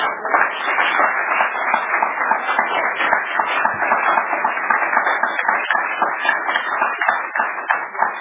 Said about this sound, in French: Applaudissez pour l'esprit.